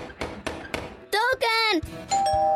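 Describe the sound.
A doorbell in a radio advert for INEGI's 2025 intercensal survey rings with several quick, bright chime strikes, then a voice calls out loudly over a sustained ringing tone.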